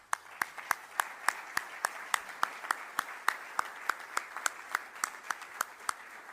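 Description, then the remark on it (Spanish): An audience applauds steadily for several seconds in thanks for a woman's extraordinary work, a dense wash of clapping with one sharp clap standing out in a regular, even beat over it. “Les pido, por favor, un aplauso de agradecimiento a su extraordinaria labor.”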